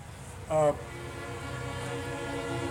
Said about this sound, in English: It's that train.